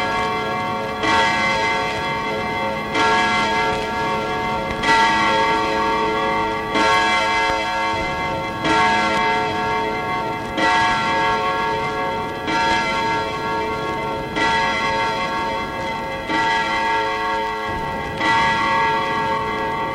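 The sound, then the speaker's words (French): A clock chimes the hour with about ten loud, resonant bell strikes at a slow, steady pace, each ringing tone blending into the next. No one speaks. “L'horloge sonna et sortit sa rêverie à Pauline.”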